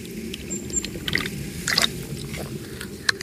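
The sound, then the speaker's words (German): Someone drinks from a water bottle with a cooling stick in the middle, with wet sips, gulps and small clicking mouth noises spread over a few seconds against a low background rumble. Nobody speaks. “Ich habe eine ganz tolle Wasserflasche mit einem Kühlstab in der Mitte.”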